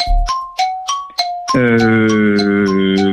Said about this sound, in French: Alors là, on a un petit problème. C'est qu'il y a eu le gong qui est arrivé. Et oui, mais tu l'as dit sur la fin du gong.